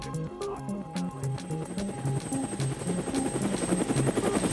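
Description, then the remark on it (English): A Twin Huey helicopter carrying two American military men and a pilot searching for craters over ice. Its rotor thumps in a steady, rapid rhythm with a continuous engine whine overhead, holding constant throughout, with no one speaking. “A few days later, two American military men and a pilot are out searching for craters in a Twin Huey helicopter when they spot something in the ice.”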